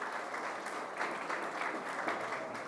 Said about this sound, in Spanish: Primeramente, un saludo muy especial a la mesa principal en cabeza del alcalde de Pereira, doctor Carlos Maya. Un aplauso para él.